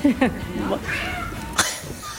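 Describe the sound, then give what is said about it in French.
A domestic cat named Adriane meows a few times, short wavering cries in quick succession, with people talking quietly in the background. “Vous avez le chat qui vous attend aussi, qui a mis son smoking.”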